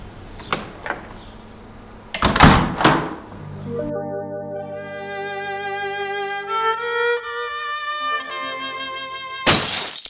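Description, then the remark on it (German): A loud crash of breaking glass after a couple of sharp knocks, followed by sustained ringing, chiming tones and then another sudden burst of noise at the end. No voices. “Also wenn Glas splittert, das ist ein cooles Geräusch.”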